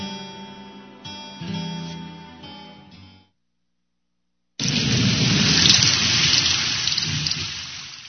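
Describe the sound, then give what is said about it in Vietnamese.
After a few seconds of tonal, music-like sound and a brief silence, heavy rain bursts in loud, a dense steady downpour with a low rumbling undertone like thunder. “Trời mưa quá mà còn gõ cửa.”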